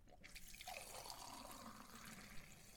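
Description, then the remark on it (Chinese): Water pours steadily into a cup, a continuous splashing trickle with a rising fill tone, fairly quiet, with no voices. “好的吧，老师您先坐一会儿，我去给您倒水拿药。”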